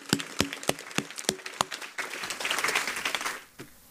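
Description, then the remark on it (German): Steady, evenly spaced claps at first, then a denser wash of audience applause that swells briefly and dies away, with one last clap near the end. Nobody speaks. “Einmal einen fetten Applaus für Sina.”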